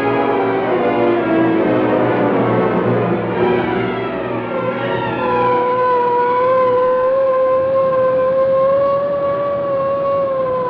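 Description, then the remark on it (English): The siren of a police car hurrying through city streets wails steadily and loudly, its pitch rising and falling in long sweeps over the rumble of the moving car, with no voices present. “Police car hurrying through the city streets carry Lieutenant Moran, Sergeant Burke, and Burke's friend, Michael Axford of the Daily Sentinel.”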